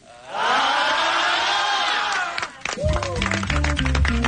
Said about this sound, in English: They're already booing. He's not even out here yet.